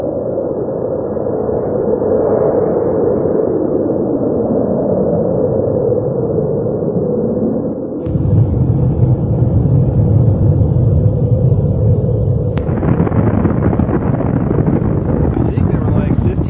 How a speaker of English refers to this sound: In fact, I brought this video here. This is called Tsar Bomba. This is the largest explosion done by the Russians.